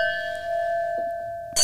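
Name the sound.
wine glasses clinking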